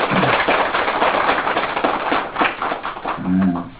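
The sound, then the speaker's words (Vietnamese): A crowd claps loudly and steadily, a dense crackle of many hands, with a short vocal cheer rising near the end. “Quý vị phải quan hô tình mẹ, tràng pháo tay lớn lên nhé.”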